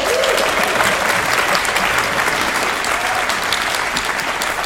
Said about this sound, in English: A big round of applause, please, for Joe Gould.